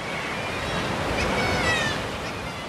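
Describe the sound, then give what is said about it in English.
Sea waves crash in a loud, continuous roar of surf at Skellig Mhíle, a puffin island off Kerry, Ireland, with some wind rumble and no talking. “Straight off the boat and into a cathedral of crying kittiwakes and crashing waves.”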